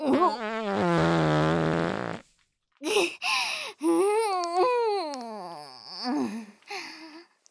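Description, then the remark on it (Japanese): A long, buzzy fart lasting about two seconds, followed by a string of shorter, wavering, squeaky fart bursts that rise and fall in pitch. Loud, with no talking. “おおおお、ほら、また出ますわよ、羽のいけないおならガス。”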